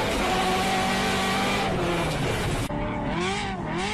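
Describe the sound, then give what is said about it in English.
A Ferrari-engined Subaru WRX STI with a straight-pipe exhaust driven hard, its high-revving engine screaming loud, the pitch climbing then breaking at a brief gear change before rising again. No one speaks. “Okay, so starting out, I hinted at this last week in the episode, a different type of Ferrari engine featured in something. Oh, yeah, you said that. So this is a Ferrari-powered Subaru.”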